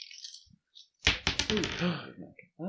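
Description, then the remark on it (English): Dice rolled by a player tumble across a table in a quick, loud burst of sharp clattering clicks that settle within a second, with a voice speaking over the tail end. “Yeah, I'd say you're going to have to do some backtracking, so I'm going to take away one of your dice, because it's a little harder. I'll let you roll it.”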